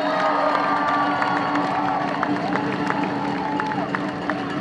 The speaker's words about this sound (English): Give a clap for the mighty AU.